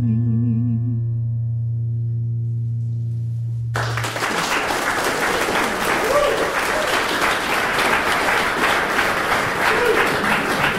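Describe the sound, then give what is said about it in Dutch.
A sustained low musical chord rings out for a few seconds at the end of a live song performed at the Boekenbeurs book fair for Radio 1's Touché, then the audience bursts into loud, dense applause that carries on steadily to the end. “Een warm applaus”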